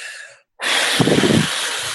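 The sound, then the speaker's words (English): A faint breath, a brief pause, then a long, forceful exhale blown out hard during a guided breathing exercise, a loud airy rush lasting over a second with no talking. “and you're just blowing it.”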